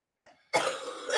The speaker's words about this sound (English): I'm just mortified by this coughing fit going on behind me.